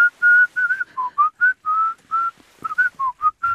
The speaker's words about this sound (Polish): A co, nie można gwizdać? Nie wolno. Nie wolno gwizdać na pokładzie.